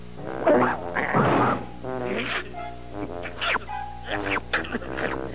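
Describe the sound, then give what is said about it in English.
A dog named Astro barks and yelps excitedly in a quick, irregular string of short, pitch-sliding calls, fairly loud, with a cartoonish, voice-like quality. “I want that dog out of here now.”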